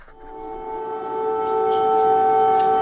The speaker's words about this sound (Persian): این صدای آژیر هشدار قرمز در کیف در ساعت اولیه بامداد جمعه است. صدایی که عموماً در طول شب شنیده می شود، آن هم زمانی که روسیه با استفاده از پهپادهای انتحاری یا موشک شهرهای مختلف اوکراین را هدف قرار می دهد.